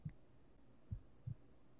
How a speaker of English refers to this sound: Can you hear my heartbeat like this?